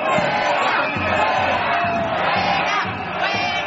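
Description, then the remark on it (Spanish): A large street protest crowd in the centre of Madrid, Spain, at 4:30 in the afternoon, demonstrating against a 'financial coup d'état', chants loudly in a steady, rhythmic cadence, many voices shouting together in repeated beats that blur into a dense, continuous roar. “Este es el sonido que se escuchó ayer en las calles de la capital a las 4:30 de la tarde.”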